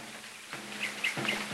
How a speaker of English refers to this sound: Just listen to them birds.